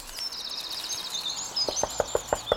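Birds trill and chirp softly, then about six quick, hollow knocks tap out in a steady rhythm on a small wooden birdhouse hung high up, fairly crisp, as the birdsong fades.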